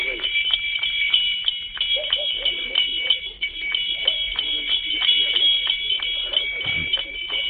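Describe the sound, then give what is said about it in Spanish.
A donkey walking, its hooves striking in a steady, fairly quick rhythm of soft clops, while a constant high-pitched buzzing drone runs underneath throughout. “Y no sé si me traiciona mi oído, pero me parece escuchar al propio burro caminando ahora mismo, ¿no?”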